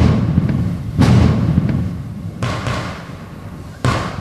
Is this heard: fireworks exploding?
yes